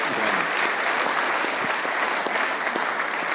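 An audience claps steadily throughout, a dense, sustained wash of many hands with no break and no voices standing out above it, in thanks to a man for years of faithful service in a role.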